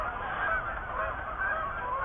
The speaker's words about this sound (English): And the ambient noise that you're hearing are geese out in the cornfield. There's probably a couple hundred that are out there right now.